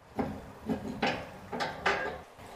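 The door of the Crystal Diamond Springhouse, which shelters a magnesium spring, being unlocked and opened: a handful of loud, irregular metallic clunks and wooden knocks over a couple of seconds, with faint rattling between them and no voices.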